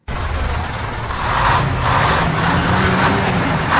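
A large bus waiting for passengers bound for Lubumbashi idles at Poueto, north-west of the central market, its engine a steady, low, continuous rumble, fairly loud, with faint surrounding outdoor noise and no voices.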